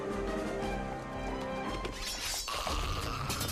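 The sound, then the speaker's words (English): A heavy roof collapse effect as a giant smashes the floor: dense, sustained crashing and shattering debris that surges around the midpoint with a sharp impact, then continues as a loud rumbling cascade of falling rubble. “Wielding swords, the Dark Riders cut off the escape route and the giant smashes the floor, which brings the roof crashing down on them.”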